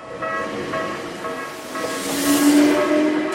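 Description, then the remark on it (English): A commuter train into Tokyo, Japan, rolls along its rails with a steady rumble, swelling louder toward the end as a high metallic whine and airy hiss rise over the clatter. No one speaks. “Those who still work take the train into Tokyo every day.”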